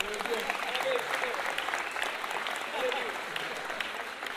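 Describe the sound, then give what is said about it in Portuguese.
Steady, dense clapping from an audience for the songwriters fills the whole stretch, a loud continuous patter with a few faint voices mixed into the applause. “Uma salva de palmas pros compositores aqui.”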